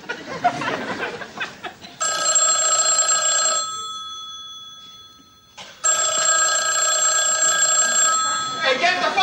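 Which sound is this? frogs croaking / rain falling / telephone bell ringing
telephone bell ringing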